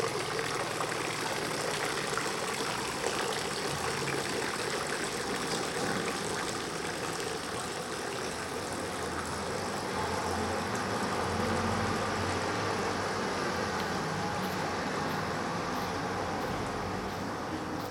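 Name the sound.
water splashing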